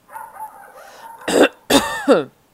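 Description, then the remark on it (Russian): A man clears his throat with two or three short, rough coughing bursts, fairly loud, preceded by a soft breathy murmur; no one speaks. “Хозяин кашлянул, чтобы придать голосу больше твердости.”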